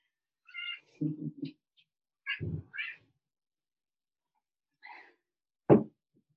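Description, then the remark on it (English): A domestic cat gives several short meows and chirps in quick bursts during a Qigong session, with soft rustling and thumping between them and a sharp bump near the end. No one speaks. “So I'm afraid my cat really likes Qigong.”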